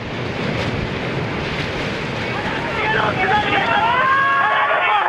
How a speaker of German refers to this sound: Mit voller Wucht treffen die Wellen aufs Land. An einigen Stellen sind sie bis zu 18 Meter hoch.